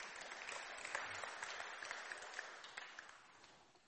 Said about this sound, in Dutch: Ja, applaus.